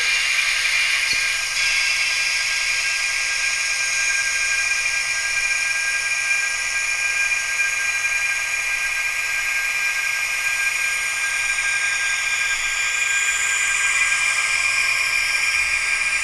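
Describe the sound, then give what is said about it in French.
A steady, high-pitched mechanical whir from a fan runs continuously at a constant loud level, its tone shifting slightly toward the end as if spinning up, with no voices. “Le bruit du ventilo.”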